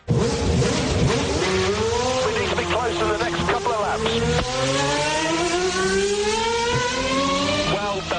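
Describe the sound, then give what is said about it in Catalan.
A racing car engine revs loudly, its pitch sweeping up and down through several gear changes in a continuous, roaring run lasting about eight seconds. “Motor!”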